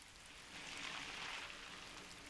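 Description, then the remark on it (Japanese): Steady rain falls in a soft, even hiss, spreading a broad wash of noise that swells slightly after the first half-second and holds at a moderate level with no voices. “ほら雨だし、せっかくの男女二人だし。”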